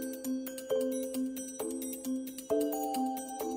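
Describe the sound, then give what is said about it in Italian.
A telephone rings at home on a Saturday afternoon, 9 September 1989, with a melodic tone: a quick run of bright pitched notes repeating in a steady pattern, clear, with no voices. “Stavo disfando scatoloni del mio trasloco quando suonò il telefono e una donna che non conoscevo cominciò a farmi domande.”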